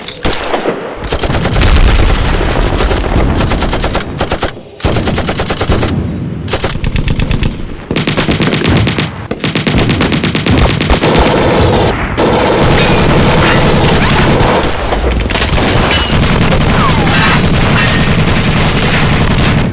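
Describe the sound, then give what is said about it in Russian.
Dense, loud bursts of rapid gunfire crackle almost continuously, broken by heavy booming blasts, like a short battle raging for about twenty seconds with no voices. “Через минуту растаял чад и грохот короткого боя.”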